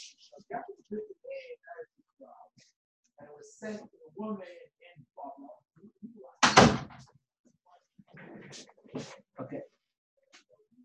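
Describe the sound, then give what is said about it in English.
A door swings shut with a single loud thud partway through, surrounded by bits of speech and handling noises before and after. “Just one second, I'm going to close the door.”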